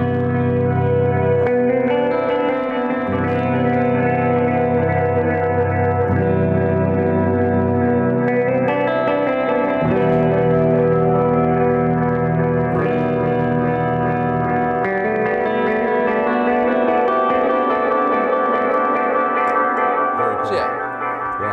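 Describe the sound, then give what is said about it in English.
Electric guitar played through a tremolo pedal with reverb from an RV6 reverb pedal: sustained, chord-like tones swell and shimmer continuously, washed in a thick ambient tail, loud throughout with no pauses. “this pedal, which is just this and some reverb”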